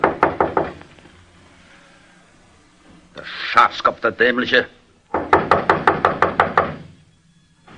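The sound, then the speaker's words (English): Sharp, quick knocking on the wooden door of a barber shop around midnight: a brief burst of raps, a moment of someone speaking, then a longer, steady run of loud knocks. “He got out of his car and, after looking around very carefully, knocked at the barber's door.”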